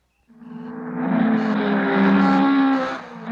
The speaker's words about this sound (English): You're hearing the sound of power, the sound of the new breed of hot, high-performance engines. They're super in performance, but they need super lubrication.